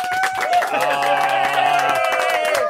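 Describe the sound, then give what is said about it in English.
A crowd in a Triple M breakfast radio studio claps in a quick, steady rhythm for a few seconds as a woman drinks a whole can of XXXX Gold from a shoe live on air, while voices cheer and hold sustained tones over the clapping. “Clap her in.”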